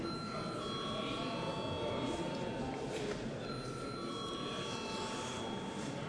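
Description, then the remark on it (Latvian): A steady electric voting bell in the Latvian parliament (Saeima), rung before a vote on a bill, rings without a break for several seconds, a loud, high, buzzing tone over a bed of murmuring voices and general background noise. “Lūdzu zvanu.”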